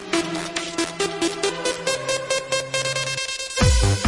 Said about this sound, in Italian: ma soprattutto c'è l'ultima rullata odierna, che è quella che fa così.